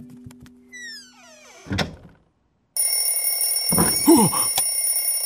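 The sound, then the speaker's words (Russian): An alarm clock set by Karamelka suddenly starts ringing, a loud, steady metallic clatter that continues without pause, following a few soft rising tones, a thud and a brief silence. “Оказывается, Карамелька завела будильник, чтобы не проспать Новый год.”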